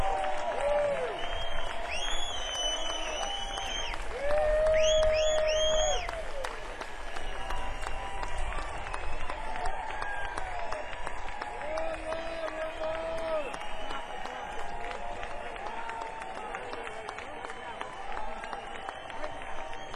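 Steady, sustained applause from a live music audience cheering a six-piece band, with cheers and whoops rising over the clapping, loud and dense throughout the whole stretch without pausing.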